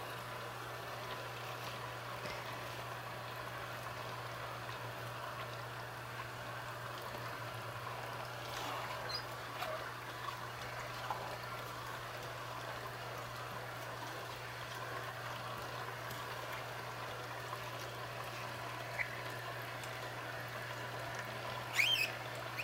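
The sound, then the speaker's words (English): A juicer motor hums steadily at a low level as produce dropped in is pulled through and juice trickles and dribbles softly out, with a few faint crunching ticks and a brief squeak near the end. No one speaks. “So you just drop it in and then it pulls it in. And then you can see the juice coming out.”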